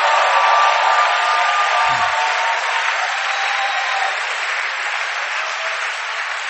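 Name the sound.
audience clapping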